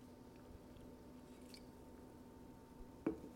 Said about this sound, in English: Let me take a sip of this Zevia.